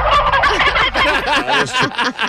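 turkey gobbling

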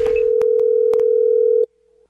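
telephone dial tone

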